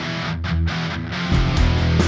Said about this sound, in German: Oben siehst du die mehr verzerrte Gitarre und unten die weniger verzerrte Gitarre